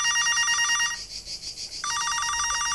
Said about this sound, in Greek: Το τηλέφωνο χτυπάει.